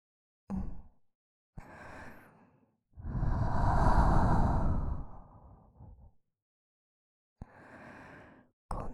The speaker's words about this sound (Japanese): 先ほどよりも生温かい吐息です。息の届く距離は短いですが、その分お耳が包み込まれているような心地よさがあって、脊髄の芯まで響く吐息全面。